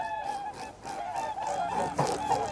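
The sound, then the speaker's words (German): Repeated honking calls from a group of whooper swans, large white birds flying past on a grey, drizzly early morning in mid-January, overlapping and fairly steady, over a constant background rush of wind and traffic from a nearby motorway. “Vogelrufe erschallen, gebettet in das Rauschen des Windes und der nahen Autobahn.”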